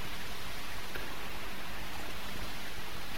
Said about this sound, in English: Again, I'm certainly glad for that rain. Knock a little of this pollen down.